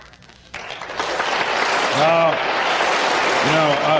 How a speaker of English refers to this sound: I understand what you're doing. You're applauding the truth of what I'm saying, but don't applaud those who've done it out there, because ain't enough of them done it yet.